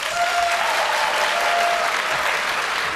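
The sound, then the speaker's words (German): Sustained audience applause fills the space, a dense wash of many hands clapping at steady loudness throughout, with no talking over it. “Also jetzt mal bitte Applaus für Hacker.”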